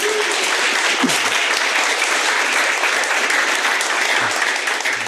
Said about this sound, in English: Oh, yeah, somebody clap.